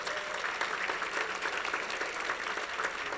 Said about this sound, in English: God bless you. Give him a good hand clap.